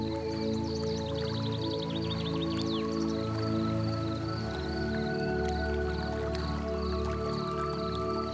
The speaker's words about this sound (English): You listen to the sound of the trickling stream as the sun sparkles on the surface of the water. And the sound of trickling water fascinates you and brings your awareness to the present moment.